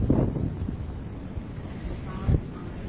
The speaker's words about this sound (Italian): Siamo praticamente davanti alla Salamandra. C'è un vento molto forte.